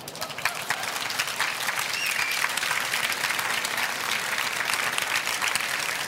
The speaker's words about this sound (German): Es klatschen auch Männer. Ich habe gerade mal genau geguckt, es klatschen mehr Frauen, aber auch Männer.